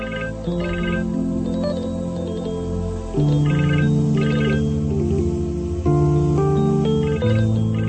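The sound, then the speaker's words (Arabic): A phone rings with a melodic electronic ringtone, the same short tune repeating about every three seconds. It plays loud and steady, with no one talking over it. “ليش بترد؟ خليه يرن.”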